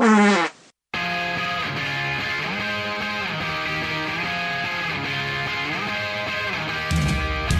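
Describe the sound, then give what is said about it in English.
A short, loud, buzzy fart sound lasting under a second, then a brief pause before an upbeat musical jingle starts and plays to the end. “And I didn't know if they sniffed their own farts or not.”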